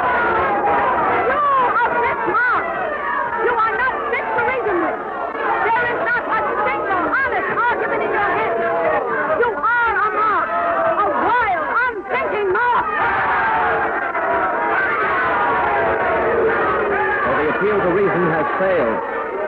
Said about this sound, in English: It looked for a minute as if Susan B. Anthony had this crowd won over. But they just won't allow any mention of voting on those resolutions. The crowd, you can hear them. They're going wild. They're shouting. They're screaming.